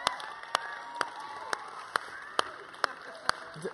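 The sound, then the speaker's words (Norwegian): Audience applause, a steady wash of clapping and crowd noise with sharp, evenly spaced claps punching through roughly twice a second, fairly quiet overall. “Gi en applaus igjen.”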